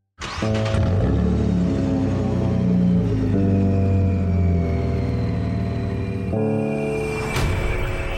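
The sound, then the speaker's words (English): A powerful luxury car engine kicks in abruptly and rumbles loudly, holding a deep steady drone with a rising whine before shifting pitch near the end, in a commercial for the Dutch e-bike company Van Moof. “In a commercial for a Dutch company called Van Moof, a luxury car melts to become one of their high-concept electrically assisted bicycles, or e-bikes.”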